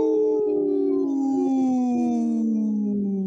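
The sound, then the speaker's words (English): People howl like wolves in a long, loud, sustained wail that slowly slides downward in pitch, several voices overlapping for a few seconds, with no talking. “And we're, you know, we just howled”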